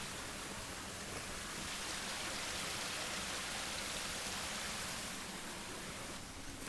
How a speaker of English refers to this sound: Oh, you can hear the waterfall. Listen to this.